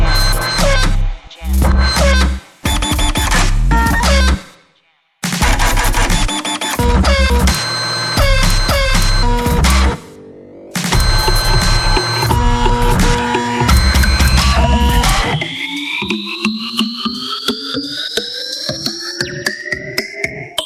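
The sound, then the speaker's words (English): Loud mechanical buzzing and grinding from a printer, in dense stuttering bursts with short pauses, then a rising whine and a quicker ticking rattle as it struggles toward the end. “Printer, jam.”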